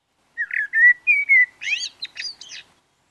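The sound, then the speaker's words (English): A songbird sings a strong, fluty phrase: clear warbled whistles at first, then a quicker run of bright, twittering notes, all within about two seconds, with no other sounds around it. “On warm days in January, their strong, fluty song can remind us that spring is on the way, and they'll continue singing till early July, often forming the backbone of the dawn chorus.”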